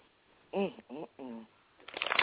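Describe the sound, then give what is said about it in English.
A voice speaks briefly, then a quick, crackling riffle of a deck of cards being shuffled follows, a dense burst of flicking snaps lasting under a second. “I'm shuffling.”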